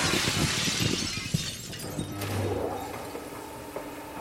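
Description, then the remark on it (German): A pane of glass shatters with a bright, crackling crash, followed by scattered tinkling and clattering fragments that settle over a few seconds, with no voices. “Die einer zersplitternden Glasscheibe eher hell.”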